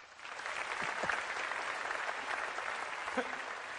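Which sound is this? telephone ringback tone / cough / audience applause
audience applause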